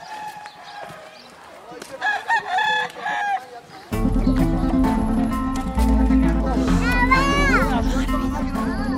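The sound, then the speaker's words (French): Fighting roosters crow repeatedly beside a railway line in a poor neighbourhood, their rising, strained calls overlapping, while a steady low hum and background voices fill the scene. “Et on entend les coqs, là, ouais.”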